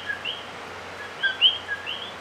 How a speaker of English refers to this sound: There are two quintessential Puerto Rican sounds that survived Hurricanes Irma and Maria. One is the tiny coqui frog.